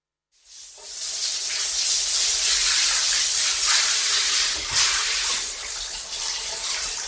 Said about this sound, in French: Il se douche.